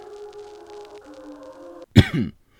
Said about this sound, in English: Kyle's father coughed, bringing him back to the present.